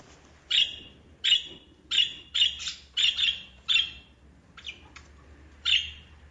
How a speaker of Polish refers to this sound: Papuga. Bardzo dobrze. To są papuszki faliste.